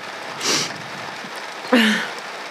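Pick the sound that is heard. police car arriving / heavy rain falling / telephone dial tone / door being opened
heavy rain falling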